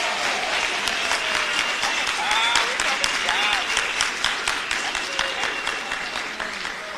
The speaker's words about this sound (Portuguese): A gente queria te agradecer profundamente. Receba aí uma salva de palmas de todos nós por ser voluntária.